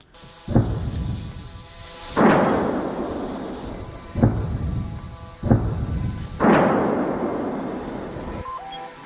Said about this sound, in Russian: Но достаточно мощно работает украинская артиллерия по оккупантам.